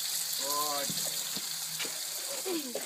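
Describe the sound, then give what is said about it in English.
A steady hiss of cold water spraying down an animal named Rosie runs throughout, broken by a couple of short, tonal squeal-like vocal sounds and a few light thumps. “spraying Rosie down with cold water.”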